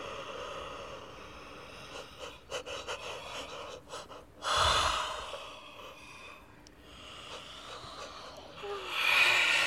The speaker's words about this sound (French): Ils baillent tellement qu'ils vont bientôt roupiller.